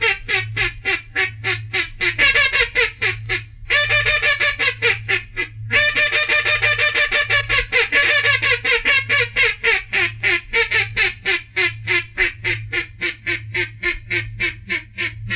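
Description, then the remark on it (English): A duck call blown loud: a short series of close-in calls in rapid quacking bursts with brief pauses, then a comeback call, a long, fast, insistent, almost frantic run of repeated quacking notes, with no talking. “I'll blow a short series of close-in calls and then a comeback.”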